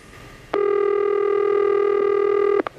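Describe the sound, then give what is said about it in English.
A single telephone keypad tone sounds loud, held steadily for about two seconds before cutting off with a couple of quick clicks, as a phone number is dialed to make a call. No one speaks. “All right, let's call Tanya now.”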